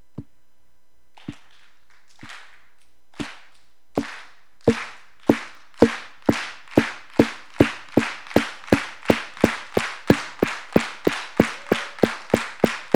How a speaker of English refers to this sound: I want you to take it and just start clapping. Stop. Stop. Now do this. Watch me. Do what I do. Clap like this.